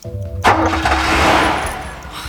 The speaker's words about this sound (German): Dann öffnete Bob die Motorhaube, blickte etwas unschlüssig auf den Motor und forderte Peter auf, sich hinter das Lenkrad zu setzen und den Zündschlüssel zu betätigen.